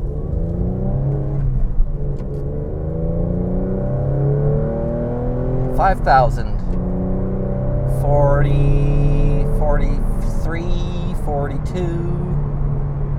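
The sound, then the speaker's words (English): A car engine drones as the driver shifts up through the gears into fourth, reaching 55 miles an hour at 3,000 RPM, its pitch climbing steadily and then dropping at each gear change before rising again, with a few brief high squeaks over the continuous mechanical hum. “I got to relearn all my speeds and gear transitions, RPMs, for fourth gear, 3,000 RPM, 55 miles an hour.”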